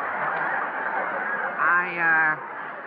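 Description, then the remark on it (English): A loud, harsh eagle cry rings out in two close bursts near the end, rising over a muffled, murmuring background. “The eagle has finally come to life.”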